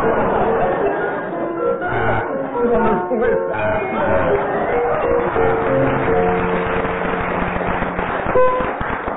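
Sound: audience round of applause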